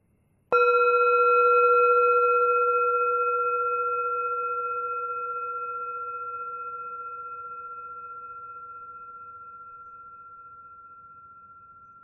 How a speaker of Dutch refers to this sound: Als je de bel hoort, begint de meditatie.